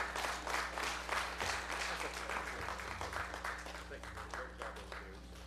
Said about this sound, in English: Let's give another round of applause tonight.